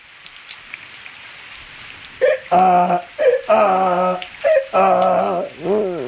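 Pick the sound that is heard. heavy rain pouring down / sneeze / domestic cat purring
heavy rain pouring down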